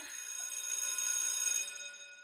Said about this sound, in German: Und wenn die Schulklingel wieder klingelt